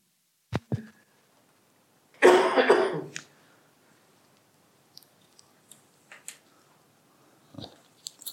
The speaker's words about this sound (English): Extra strong mint to the rescue to try and clear my throat.